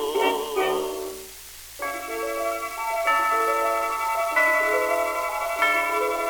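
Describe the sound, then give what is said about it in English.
A clock chimes three o'clock in a slow sequence of ringing, bell-like tones, each note lingering as the next begins. The chiming is clear, following a brief burst of other tones at the start. “There goes the 3 o'clock chime, chiming, rhyming.”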